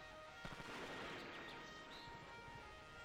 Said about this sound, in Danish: Pludselig hører jeg skud.